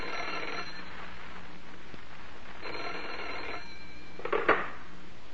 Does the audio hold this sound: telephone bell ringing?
yes